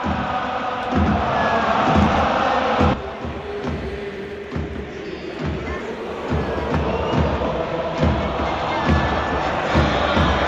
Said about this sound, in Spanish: Escuchamos el himno a capela en el Camp Nou.